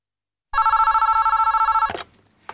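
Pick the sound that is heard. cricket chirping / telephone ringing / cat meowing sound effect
telephone ringing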